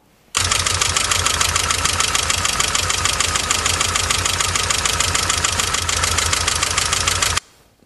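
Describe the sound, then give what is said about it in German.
An old M43 petrol engine idles steadily, with a fast, even ticking from the valve train clattering over the low rumble the whole time, then cuts off abruptly. “Sich aber tatsächlich nach Ventiltrieb an, als ob die Hydros leer laufen.”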